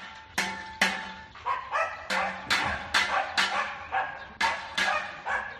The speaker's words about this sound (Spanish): Así ahuyentaban los agentes a los jabalíes, tocando el claxon del coche patrullé con una bandeja a modo de platillo.